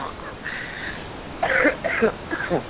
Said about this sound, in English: And excuse me for coughing.